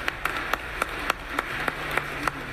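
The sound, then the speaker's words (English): Sparse, steady clapping for a 101-year-old lifelong Bronx resident at a community gathering: about ten crisp, sharp claps in an even rhythm, moderately loud over a low background hum, with no voices. “You could clap for that.”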